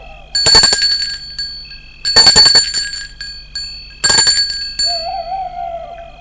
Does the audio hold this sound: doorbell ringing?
yes